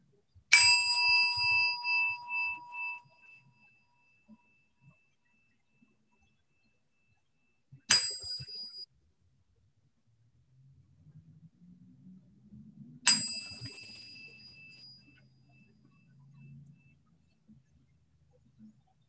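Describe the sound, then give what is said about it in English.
A meditation bell is struck three times to begin a meditation, several seconds apart, each strike ringing out clearly and fading in a long shimmering decay, with faint low rumbling noise between strikes. “And I'll ring a bell to begin.”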